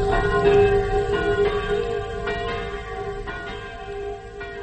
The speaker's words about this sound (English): the bells now, even though the big one has been smashed by the Germans, to let you know that the people of Normandy are celebrating their liberation. The church bells are ringing, and the villagers are going to mass to give thanks for their freedom.